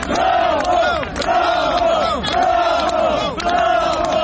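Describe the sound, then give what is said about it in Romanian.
A large crowd of supporters shouts greetings and cheers together for Maia Sandu on her way to the Presidential Palace, in loud, rhythmic bursts, voices rising in repeated chant-like waves about once a second, dense with no single speaker standing out. “a așteptat-o pe Maia Sandu în Palatul Prezidențial, unde aceasta a ajuns după mai multe băi de mulțime, printre simpatizanții care au ieșit cu salutări.”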